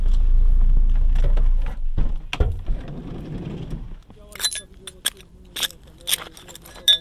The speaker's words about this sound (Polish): Mnóstwo szkła pod nogami.